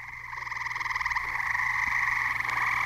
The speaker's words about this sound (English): Now those are tree frogs.